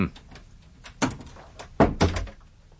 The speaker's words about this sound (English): Would you mind closing the door?